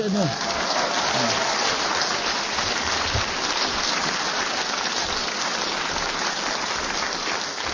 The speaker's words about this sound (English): I hope you are applauding the whistle and not what he said.